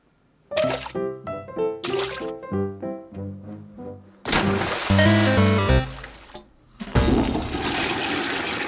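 A short run of bright, bouncy musical notes gives way to a loud toilet flush, with rushing, gurgling water that surges, dips briefly, then roars again until the end.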